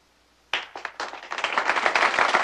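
Applause from an audience after a poem recitation on a stage begins abruptly with a few separate claps, then quickly builds into dense, rapid clapping from several people that grows louder and fuller; two girls clap furiously. No one speaks.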